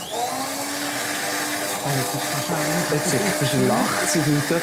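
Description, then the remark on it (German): A hand blender whirs steadily for the whole stretch, a continuous motor drone frothing a sauce, while people talk over the noise. “Was ich noch spannend finde, viel Köche, oder jetzt auch hier, du tust aufschäumen mit einem Mixer.”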